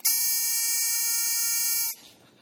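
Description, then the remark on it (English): A single loud, harsh electronic buzzer blares steadily for almost two seconds as an opponent hits it in a word-guessing card game, then cuts off abruptly, leaving only faint background noise. “Now, if the player says one of those words, an opponent, looking over their shoulder, hits the buzzer.”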